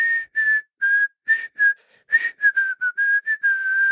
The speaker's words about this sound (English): That global crime against whistling emerges in this year, which I can't forgive, because one of my first jobs in digital media in a small company, when this would come on, five or six people would all start whistling.